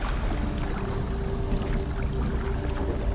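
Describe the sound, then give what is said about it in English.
Steady watery splashing and sloshing as five people paddle a canoe across a lake toward a flag, with a low constant hum beneath; no one speaks. “The five of them started to make their way across the lake in a canoe to the flag.”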